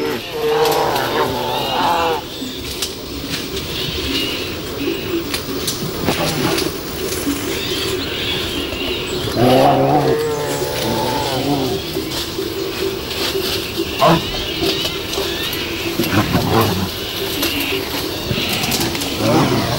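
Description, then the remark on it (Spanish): Two brown bears growl and bellow in a scuffle, with deep guttural bursts coming every few seconds over a steady rustle and crackle of brush being torn in the background. “Aquí escuchamos cómo una pareja de osos, un macho y una hembra, posiblemente en celo, están destrozando el monte.”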